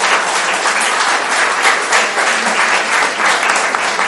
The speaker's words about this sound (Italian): Per favore, sono allergico agli applausi.